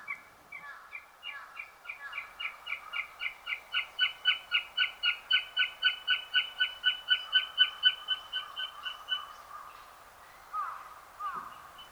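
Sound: northern goshawk call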